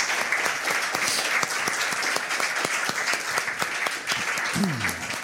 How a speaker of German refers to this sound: Ganz herzlichen Dank und großen Applaus auch da noch einmal.